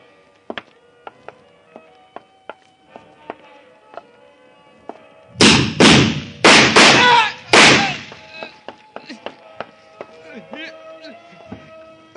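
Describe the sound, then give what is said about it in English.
A door is kicked open with a burst of four heavy, booming impacts in quick succession, set among scattered faint knocks and clicks before and after. “I'll kick it open.”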